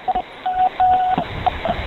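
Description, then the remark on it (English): A series of telephone tones heard down a narrow phone line as a prank call is placed to a 24-hour Walgreens: a few short beeps, then longer steady tones, fairly loud and irregularly spaced, with no one talking. “Live prank phone.”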